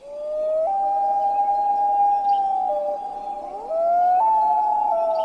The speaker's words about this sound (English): Or the eerie wailing of the common loon.